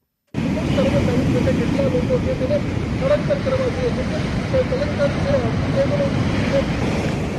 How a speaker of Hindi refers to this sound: गुजरात के पोरबंदर में समंदर की लहरों की आवाज, और यह आवाज लगातार तेज हो रही है। वजह है चक्रवाती तूफान वायु जो तेजी से गुजरात के तटीय इलाके की ओर बढ़ रहा है। ये तूफान आज तट से टकराएगा।